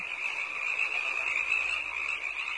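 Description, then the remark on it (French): A voice imitates croaking frogs with a steady, shrill, unbroken trilling chorus held at an even, fairly loud level throughout, with no talking. “Moi aussi, bah je vais vous faire maintenant les grenouilles.”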